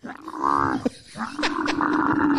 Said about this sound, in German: Ich zeig dir mal, wie ein Kamel klingt.